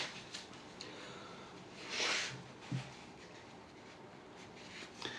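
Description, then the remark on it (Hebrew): A single short, breathy nose blow into a tissue by someone who has been coughing, fairly quiet, followed by a faint rustle and soft handling sounds; no one speaks. “אני לא יודע מאיפה כל השיעולים האלה. שנייה, מקנח.”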